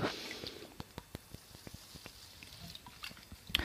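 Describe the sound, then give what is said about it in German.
Quiet wet sounds of someone drinking from a water bottle, with a series of soft clicks and gulps spaced irregularly over a few seconds and a faint hiss of air. “Ich muss gerade meinen Schluck trinken, deswegen habt ihr die Wasserflasche gehört.”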